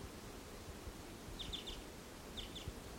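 A male bird in trees, singing as he flies in, sings faint, high chirping notes in two short bursts, a quick run of three then two, over a steady background hiss with no voices.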